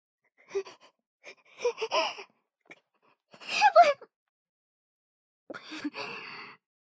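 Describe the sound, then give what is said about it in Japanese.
Several short, breathy intakes of breath build up before a sudden, loud sneeze bursts out, followed after a pause by a softer, sighing exhale. No one speaks. “なんかくしゃみが。”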